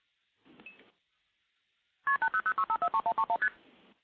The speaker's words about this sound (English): So we hear some MF digits, and now we'll hear constant ringing. The ringing will eventually time out, and you can actually seize the trunk at any point.